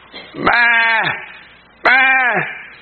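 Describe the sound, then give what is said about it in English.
A goat bleats twice, each call a loud, wavering cry lasting about half a second, with a short pause between them, and with no talking. “Can you see it, little goat?”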